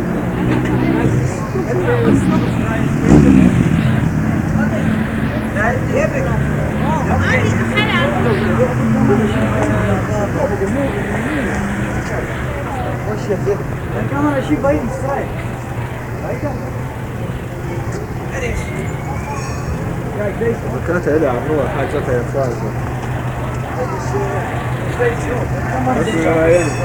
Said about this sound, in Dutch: ME-bussen rijden de Lange Leidse Dwarsstraat in.